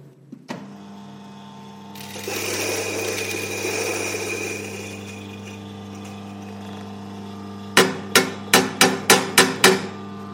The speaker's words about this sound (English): So we're going to grind this coffee up for paper filter. Away we go.